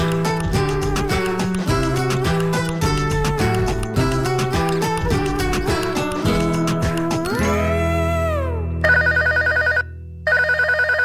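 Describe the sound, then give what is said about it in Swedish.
A bright musical jingle plays, ending in a rising chime, then a telephone rings as a caller phones in, with two loud, rapid trilling bursts separated by a short pause. No one speaks. “Idag är det Madde som ringer in och berättar om något mystiskt med kottar”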